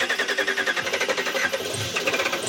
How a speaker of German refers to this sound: Am Stadtrand von Charlotte im US-Bundesstaat North Carolina spielt sich eine alltägliche Szene ab. Der Motor eines Pickups startet.